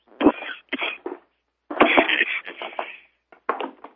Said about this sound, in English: I apologize for my coughing.